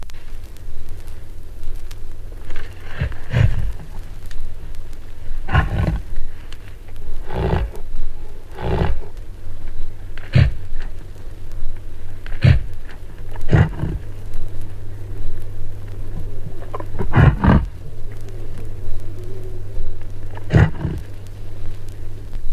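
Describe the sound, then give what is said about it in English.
A bull reindeer's rutting call: a run of deep, rough grunts repeated every couple of seconds at an uneven pace, fairly loud over a low steady rumble, with no talking. “the reindeer. The rutting call of the bull.”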